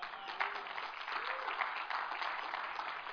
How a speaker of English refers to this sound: Yes, if you want to give God a hand, give him a big hand.